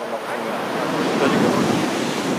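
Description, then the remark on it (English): Steady roar of Pacific Ocean surf washing onto a shore, with light fog coming in from the water; a broad hiss of water that swells slightly midway, with faint wind rumble and no voices. “Finally, after 3 days of group games, the players enjoy a day off at the ocean.”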